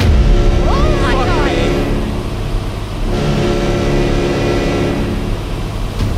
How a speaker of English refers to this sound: Whatever those boats are, they're making good time. They're also blocking off the entire bay.